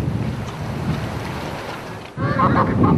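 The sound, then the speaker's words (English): Wind rumbles steadily across an open field; after a brief lull, a flock of about 500 free-range laying hens on a grass-based farm breaks into overlapping clucks and squawks near their mobile egg-laying shelter, mixed into the gusty outdoor noise. “You know, this is 500 birds, and they just free range out.”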